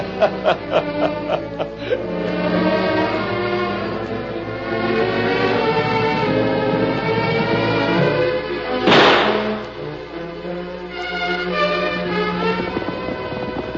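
sound effect, gunshot

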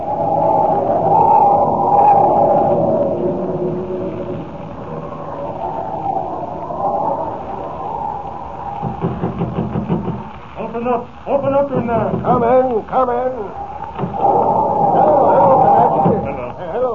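nature, howling blizzard wind

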